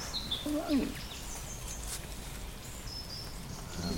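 robin singing

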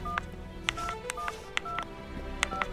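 telephone keypad dialing tones

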